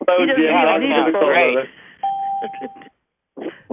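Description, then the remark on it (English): A single steady electronic telephone keypad tone sounds for about a second, clear, with someone talking just before and a few quiet voice sounds around it. “listen to that phone.”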